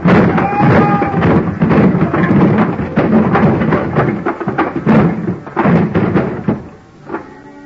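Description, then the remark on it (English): A high pile of wooden boxes ready for shipping comes crashing down after a heavy, empty dolly is sent crashing into the bottom box, in a long, loud tumble of thuds and clattering knocks, one impact after another for several seconds before trailing off into a few last bumps. “I grabbed a heavy, empty dolly, gave it a flying start, and sent it crashing into the bottom box of the pile.”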